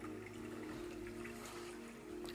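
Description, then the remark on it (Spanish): Water flows steadily with a soft, continuous trickling texture and a low hum underneath, fairly quiet and even throughout, with no voices. “Escuchar los relajantes sonidos del agua puede calmar el estrés, promover la relajación mental, incluso te ayudará a dormir mejor.”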